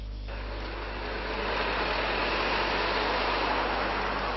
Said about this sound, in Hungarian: Néma csöndben, villogó fényjelzéssel érkeztek a gyilkosság helyszínére a rendőrautók.